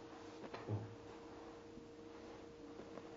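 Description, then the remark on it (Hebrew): A door bumps shut with a short, muffled thud, followed by a few faint clicks against a quiet hum. The sound is soft. “דלת? משהו משהו.”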